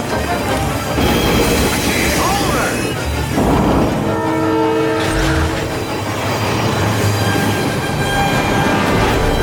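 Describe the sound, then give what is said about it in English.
A loud train rumbles and rattles steadily along in a Superman scene where Superman saves the train, and partway through a train horn blares a sustained chord before the clattering motion carries on. “Then he saves the train. Same thing, but this time with train motion.”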